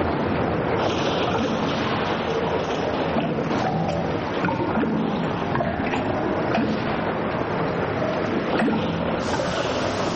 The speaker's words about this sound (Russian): От макро к микро, ливень, как мы его слышим. А теперь крупнее, по траве хлещет дождь. И под микроскопом страшно, чудовищные капли врезаются в воду и взрываются.